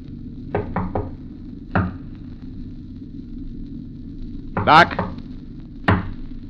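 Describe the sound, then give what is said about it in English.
Knocking on a locked door: a quick run of three raps, a lone knock, then a louder, rattling bang and one more knock, all over a steady low rumble. “Why don't he answer? Ah, the door's locked. Open up, Doc. It's us.”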